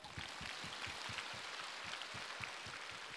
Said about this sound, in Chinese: 鼓掌。